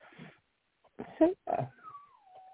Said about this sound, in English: Now the dog's in the other room going on.